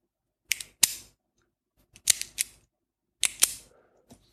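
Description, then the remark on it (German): A ballpoint pen clicks in three quick bursts of two or three sharp, bright mechanical snaps each, separated by short pauses, with one faint final click and no voices. “Ein Kugelschreiber ist das.”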